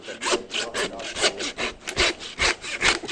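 A saw cuts through meat and bone in steady back-and-forth strokes, about ten harsh, rasping pulls in quick rhythm, fairly loud with no voices.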